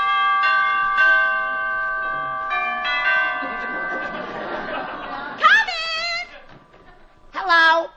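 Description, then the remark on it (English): A doorbell chime at a girl's home, rung by a young man calling on her, rings out several ringing notes that linger and overlap for a few seconds, then fade as voices break in with short, lively exclamations. “Gee, I always have trouble getting up enough courage to ring the doorbell.”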